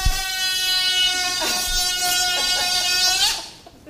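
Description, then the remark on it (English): Air rushes out of a released balloon in a loud, buzzy, reedy squeal that holds a steady pitch with slight wobbles for about three seconds, then quickly fades away. “So if I hold up this balloon and let go of the nozzle, in which direction should the balloon accelerate?”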